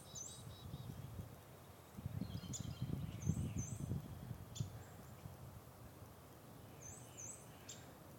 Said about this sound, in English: Such a pleasant start to the day. Just finished a short little run to get the cobwebs out of my legs, get the blood going, air in the lungs. And listen to bird calls.